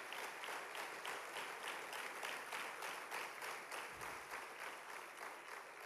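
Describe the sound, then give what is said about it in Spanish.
A crowd claps steadily and loudly throughout, a dense wash of many hands applauding together for the Lord, with a faint murmur of voices beneath. “Dale fuerte ese aplauso al Señor.”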